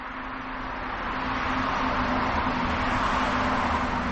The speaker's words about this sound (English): She and her colleagues studied the reactions by birds to the sounds of vehicles, and they did it without paving the great outdoors. Instead, they mounted 15 pairs of speakers on Douglas fir trees along a ridge near Boise and played traffic noise.